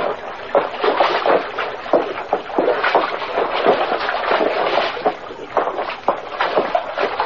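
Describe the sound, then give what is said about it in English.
Footsteps slosh and splash over hard rocks through a creek in a ravine, a steady run of wet, uneven steps, water churning constantly underneath with no voices. “Hard walking on these rocks. Yeah, like walking on marbles and billiard balls.”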